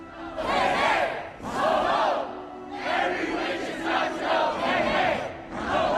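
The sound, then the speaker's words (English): A packed Claudatorium of students cheers loudly while Torelai pumps her fists at the podium, the roar rising and falling in several surging waves with brief dips between them, no single voice standing out. “In the packed Claudatorium, students cheer while Torelai pumps her fists at the podium.”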